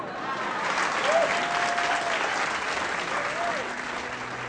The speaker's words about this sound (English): That's the end of my song. And now, please applaud, or you'll hurt me.